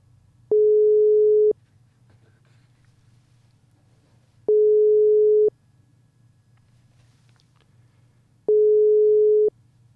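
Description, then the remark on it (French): A telephone call to a participant of the Belgian delegation of the flotilla rings with no answer: three long, steady mid-pitched tones, each lasting about a second, spaced evenly with pauses between, over a faint low hum. No one speaks. “On va essayer de l'avoir, mais je ne sais pas, peut-être qu'il fait sa vaisselle.”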